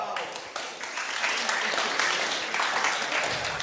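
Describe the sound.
Steady crowd applause, a dense wash of many hands clapping that holds fairly loud for a few seconds, with a slight swell partway through and some voices mixed in.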